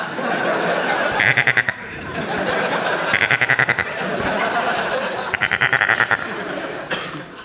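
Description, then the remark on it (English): A goat bleats three times at roughly even intervals, each call a loud, wavering, quavering cry lasting under a second, over a steady hiss of background noise. “Hello, goat.”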